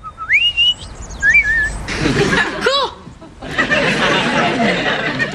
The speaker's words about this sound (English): Hey, Bird, you really singing just for me?